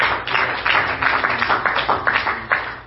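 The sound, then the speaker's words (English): An audience claps their hands together in a steady rhythmic beat, about three claps per second, with a dense, continuous wash of sound between the sharper accents and no talking. “Can you clap your hands?”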